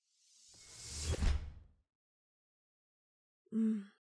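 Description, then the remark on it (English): A door swings shut with a rising whoosh and a soft low thud. After a pause of silence, a brief tonal voice-like sound follows. “Also, make sure you close the door behind you, please.”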